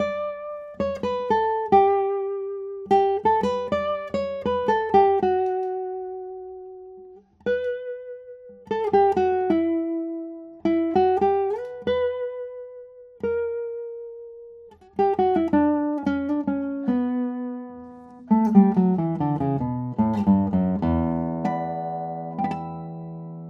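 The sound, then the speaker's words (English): An electric guitar plays slow melodic phrases, with single notes that ring out and fade gradually over several seconds, some gliding in pitch, and a lower note bending downward near the end. “Also, the sustain of this guitar is so long, and you can see how long I can wait on a tone.”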